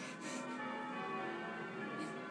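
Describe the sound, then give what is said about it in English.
Church bells ring continuously, their overlapping tones blending into a dense, sustained peal at steady volume, with no voices heard. “You wouldn't want bells thrust upon you, actually, would you?”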